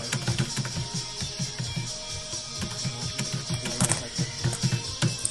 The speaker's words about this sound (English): Am I typing too loudly, listeners? Because apparently I am. You might not hear it too much, but just so you get a little bit of an idea.